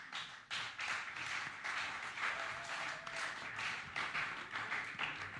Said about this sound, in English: So actually, applause is good.